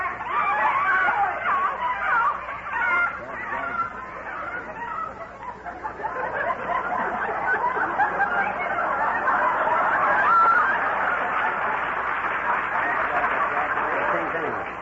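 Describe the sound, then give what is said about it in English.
A crowd of chickens clucks and squawks nonstop, a dense, agitated racket that stays loud for the whole stretch with no pauses. “Playing tag with them squawking egg factories”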